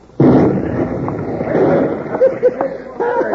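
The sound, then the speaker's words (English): A single loud explosion of a fused bomb thrown out of a window erupts suddenly and rumbles on for a few seconds, with voices shouting faintly beneath the fading roar. “That explosion might draw him away from the back door.”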